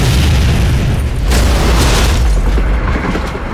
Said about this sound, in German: Das Team von Hunt wird für eine gewaltige Explosion im Kreml verantwortlich gemacht.